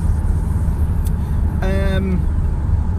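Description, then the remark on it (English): A steady low rumble of a car on a 60 mph road, interrupted by a short, high-pitched brake squeal lasting under half a second, with a slightly falling tone, as the car brakes down to 30 mph. “And here come the brakes.”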